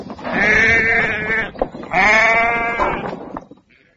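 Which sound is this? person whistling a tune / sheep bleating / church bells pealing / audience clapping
sheep bleating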